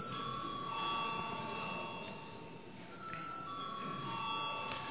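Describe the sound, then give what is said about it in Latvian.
A parliament chamber bell rings steadily for several seconds, calling deputies to vote after objections are raised, a sustained bright metallic tone over the low murmur and rustle of a large room. “Lūdzu zvanu.”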